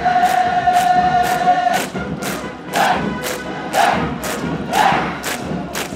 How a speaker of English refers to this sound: You could see as they crossed into his line of sight, the goose steppers suddenly kicked higher. Their boots rang out louder against the stones of the square.